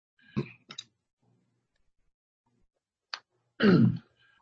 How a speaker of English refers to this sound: Okay. Let me take a sip of water, clear my throat.